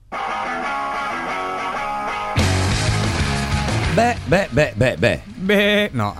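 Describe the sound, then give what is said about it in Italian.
Sustained organ-like music plays, then a run of loud, wavering sheep bleats rings out in quick succession over it, several overlapping cries. “Avevi visto l'apertura, scusa, non abbiamo parlato di quello, no? Delle pecore, dell'organo, pecore.”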